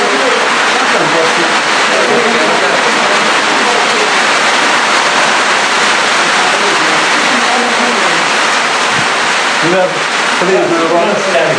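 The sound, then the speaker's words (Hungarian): Heavy rain, not hail, pours down steadily in a loud, dense hiss of large drops, continuous throughout, with faint voices murmuring underneath. “Ez nem jég, csak nagy, nagy szemekbe esik az eső.”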